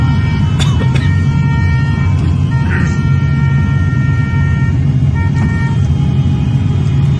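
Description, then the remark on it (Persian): A convoy of many people's cars drives a long distance toward a prison, rolling past with a steady, loud engine rumble, car horns honking and holding long tones over the traffic throughout. “همه خب فاصله زندان زیاده، با ماشین هم رفته بودن تعداد زیادی عزیزان.”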